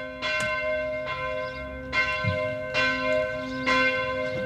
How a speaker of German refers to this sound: Tja, jetzt ist es soweit. Ohrenspitzen, hier sind unsere Glocken.